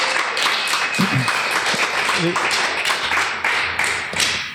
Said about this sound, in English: And I think we owe him a round of applause for all of his work. Thank you.